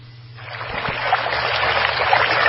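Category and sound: household object, water trickling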